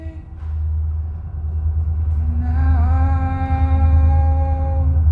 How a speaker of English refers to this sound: a train passes overhead.